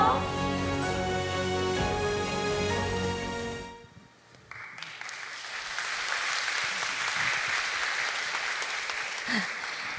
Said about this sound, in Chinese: 看只有一分多钟，我们创媒帮我们拍了一个半小时，我们再拍手谢谢创媒。